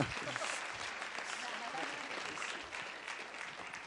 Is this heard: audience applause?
yes